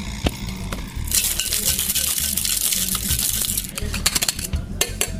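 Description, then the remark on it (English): Small pieces of pebbled ice rattle rapidly with mint inside a cocktail shaking tin in a quick, steady whip shake, a bright dense clatter lasting a few seconds before a few final clinks. “Another little bit of pebbled ice. We will give it a whip shake.”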